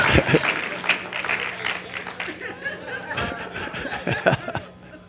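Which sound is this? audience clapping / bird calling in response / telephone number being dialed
audience clapping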